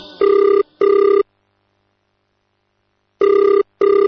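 A telephone rings while a woman is listening to Quran recitation and following along in her Quran, in two double bursts, each pair of short electronic trills followed by a long pause of silence; the ring is loud and clear with no talking.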